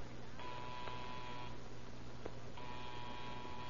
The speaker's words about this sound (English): You gonna buzz the phone? Yeah, right now. I hope it works.